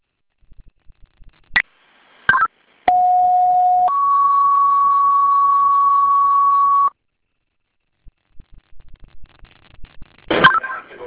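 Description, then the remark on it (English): Fire dispatch alert tones sent to Webster Fire for a reported structure fire on Lake Street, a second alarm assignment: a brief lower steady tone jumps to a higher one held for about three seconds, framed by sharp clicks and static bursts from a scanner-like channel. “Fire alarm is now striking a second alarm assignment for Webster Fire.”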